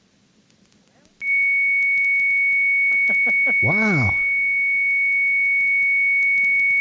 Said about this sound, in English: That's the magical sound. But is it a carrier or is it a... Well, it sounds like a carrier.